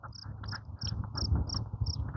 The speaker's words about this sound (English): I hear crickets. Quiet morning.